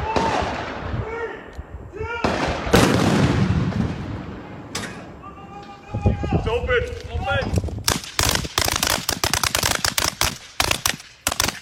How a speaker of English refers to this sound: In the town of Hoffman, North Carolina, residents are kept up at night with the sound of artillery fire and explosions as a result of the military training complex that moved into their neighborhood.